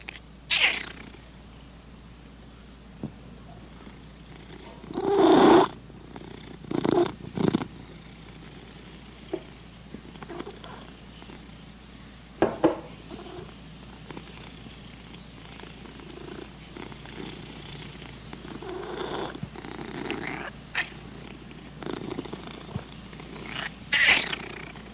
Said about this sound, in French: Notre chat Duffy ronronne.